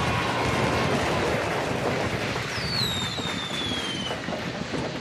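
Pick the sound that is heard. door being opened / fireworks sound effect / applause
fireworks sound effect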